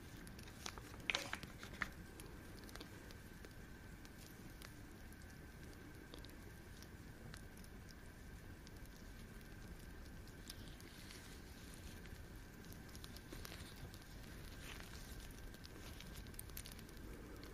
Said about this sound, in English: Hope you're enjoying the sounds of the fireplace too.